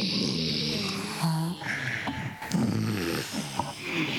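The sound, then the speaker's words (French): A voice imitates a bear's snore from the throat, making several rough, rumbling snorts in a slow rhythm, fairly loud. “Le ronflement de l'ours avec la gorge.”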